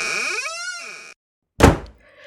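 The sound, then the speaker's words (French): A door creaks open on its hinges with a long, wavering squeal as someone comes home, then after a short silence it shuts with a heavy thud that fades quickly. “Sitôt passée la porte, elle entend sa mère qui est au téléphone.”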